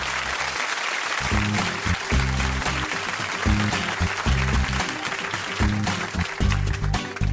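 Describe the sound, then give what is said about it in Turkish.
Sustained applause from a group on a radio show, thanking the people who brought tea: a dense, steady wash of clapping lasting several seconds, with a rhythmic low thumping beat running underneath. “Bu da teşekkür ediyorum getirenlere. Alkış olsun.”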